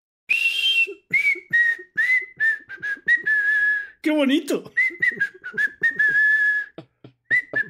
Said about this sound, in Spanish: ¿Cómo haces para silbar dos notas a la vez? Maravilloso, ¿eh?